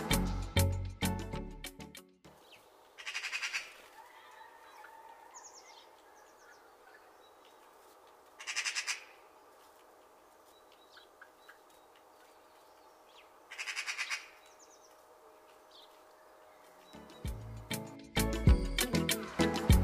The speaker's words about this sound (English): Magpies are in fact small crows and are omnivorous, feeding on carrion, invertebrates, chicks and eggs. They are sociable birds and are often seen chattering noisily in small groups across many habitats, from gardens to parks and heaths to hedges.